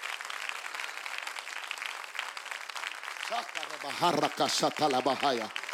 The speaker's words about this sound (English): My God, clap your hands again.